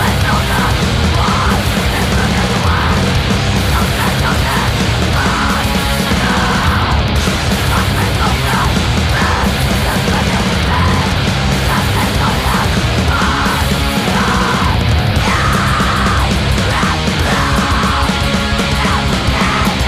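Loud, raw punk rock from a 53-second track on a 2013 7-inch record, with distorted guitars and pounding drums, a woman screaming the vocals over a dense, relentless wall of noise that never lets up.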